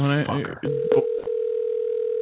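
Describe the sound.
A steady electronic phone tone holds one pitch and grows continuous after a voice speaks briefly at the start, clear, like a call connecting through a handset speaker, calling a number taken off Facebook.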